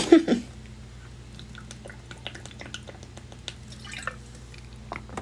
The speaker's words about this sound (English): Number three, let me get some water.